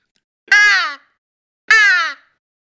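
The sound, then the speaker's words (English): Two loud, raspy caws from a crow call used as a locator call to get turkey gobblers to gobble, each about half a second and sliding slightly downward, separated by a short silence, with no talking. “Another thing I carry with me, and I use this quite a bit as a locator call, if I'm walking a road and I'm not hearing much and I'm running and gunning and I'm trying to get a gobble, I'll pull out a crow call.”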